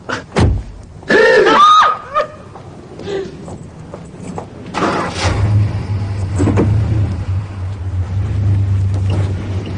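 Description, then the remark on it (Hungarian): A car engine revving in first gear with the handbrake on strains at low revs, a steady, loud droning rumble that starts midway and holds to the end, after a few brief high-pitched cries and clatters at the start. “Akkor még mindig autókázik valahol. Egyesben is behúzott kézifékkel.”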